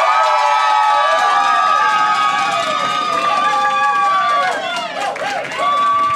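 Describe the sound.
A large audience cheers loudly and continuously, many voices whooping and shouting together up close, the roar dipping briefly near the end before swelling again.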